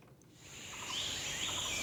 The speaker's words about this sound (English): Incredible jungle sound effects. 8K exotic birds. Okay. How long is this? 8 hours worth? That'll work.